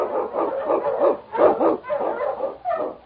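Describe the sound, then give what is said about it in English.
A husky sled dog, King, Sergeant Preston's Eskimo lead dog in the Yukon, barks and yips excitedly in a rapid series of loud calls, the outbursts coming in uneven bursts with a few whimpering tones mixed in. “Run, you husky!”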